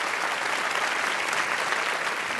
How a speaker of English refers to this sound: I just want to thank all of you and encourage you to give yourselves a round of applause for terrific questions.